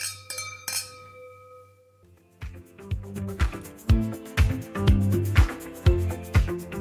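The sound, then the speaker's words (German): Wine glasses clink together twice in quick succession in a toast, each leaving a clear, bright ring that hangs briefly before a rhythmic, bass-heavy music track starts up. “Danke und Prost Mahlzeit. Prost.”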